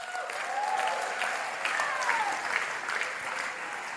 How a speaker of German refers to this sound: Und dann passiert Folgendes. Applaus für 2. Samuel 6, Vers 6.